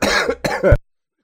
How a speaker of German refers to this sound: Und wie ihr hört, immer noch Husten, ne?